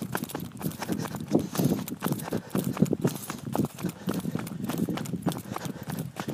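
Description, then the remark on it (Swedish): Quick, steady footfalls crunch on loose gravel, a rhythmic series of impacts with a faint breathy background, as a person runs downhill on a gravel road toward a lake in the dark at about 7:30. “Och nu springer jag in på det totalt mörk. Går vägen här, ja.”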